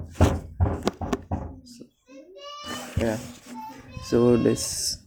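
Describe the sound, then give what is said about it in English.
Four heavy knocks thud on a door at an uneven pace, loud, made by the speaker's nephew, followed by a child's high voice calling out and talking. “Sorry, there's a knock, which is my nephew there.”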